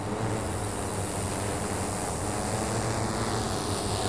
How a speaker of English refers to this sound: And we have multiple drones stacked up on different airspace segments, flying on top of each other in their own designated airspace.